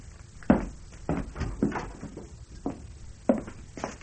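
A series of sharp wooden knocks and clatters, irregularly spaced, like a door being unlatched and pulled open with some rattling and thuds.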